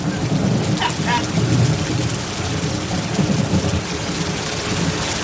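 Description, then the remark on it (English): Heavy rain pours down steadily in California, a dense hiss across the whole clip, with deep rumbling thunder rolling underneath. Loud, with no voices. “It's really raining. It's really coming down.”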